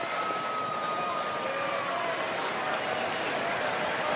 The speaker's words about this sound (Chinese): 然后呢 这个李正厚的爸爸李宗范呢，被现场的这个播音介绍给球迷，介绍给现场球迷呢，大家为他鼓掌喝彩的情况啊，长度18秒，一起来听。